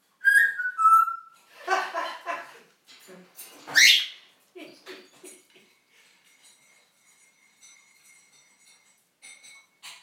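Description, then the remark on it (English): A female parrot whistles and mimics household noises: sliding whistles, chirps and a rising squawk, then clinking sounds like a spoon stirred in a cup and set down, followed by a long thin steady whistle. “Crazy parrot. Learning to say a few new things.”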